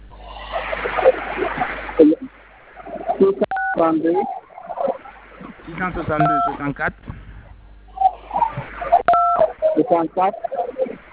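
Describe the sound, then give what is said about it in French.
Telephone keypad tones beep in a few short, separate bursts as a caller presses the phone's buttons, some in quick succession, cutting through a conversation heard over a narrow, phone-like line. “Évitez de toucher les boutons du téléphone, s'il vous plaît, monsieur.”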